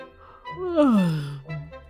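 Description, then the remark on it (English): A voice acts out a long, drawn-out yawn, its pitch gliding downward with a breathy, sighing quality before trailing off into a low hum, moderately loud. “yawned the lazy pig.”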